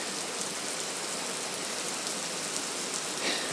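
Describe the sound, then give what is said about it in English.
Heavy rain pours down outdoors in a dense, steady hiss, so heavy the air looks grey, heard while sheltering under a tree during a run; continuous, with no voices or other sounds breaking through the constant wash of falling water. “It's raining so heavy, the air is actually grey.”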